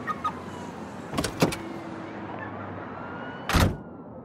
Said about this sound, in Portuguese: Eu só tô destravando o carro aqui, pera aí.